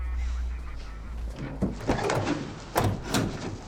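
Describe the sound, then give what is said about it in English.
Police transit van doors being shut by a police officer: a few heavy clunks and thuds in quick succession, with a low rumble underneath at the start. “The bobby closes the transit doors.”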